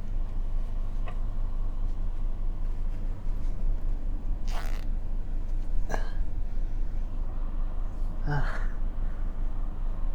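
zipper being pulled

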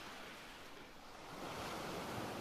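ocean waves washing ashore

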